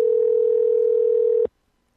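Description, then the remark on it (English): A Skype call's dialing tone as a call is placed to a brain surgeon: one steady, clear electronic pitch held for about a second and a half, then abruptly cut off into silence. No voices. “So you know, while I'm waiting to call Donald Trump, may as well call this guy.”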